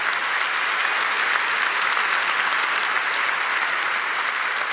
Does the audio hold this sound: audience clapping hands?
yes